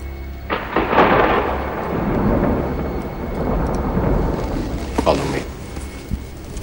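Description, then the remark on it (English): A loud thunder crash in a film scene, as lightning flashes, breaks in near the start, then rolls on as a deep, sustained rumble for several seconds, swelling once more briefly before fading toward the end. “I love that bit where he turns around and the sort of lightning flashes behind him.”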